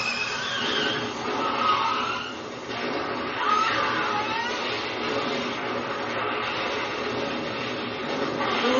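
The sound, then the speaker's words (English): A car being wrecked in film audio, the same kind of car used in Christine: dense, loud, continuous crunching and grinding noise with screeching tones rising and falling across it, sustained for the whole stretch with no voices. “Car they fucked up.”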